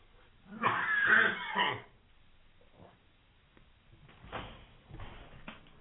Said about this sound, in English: Oh my God. I just hacked up the biggest phlegm ball of all time. Holy shit.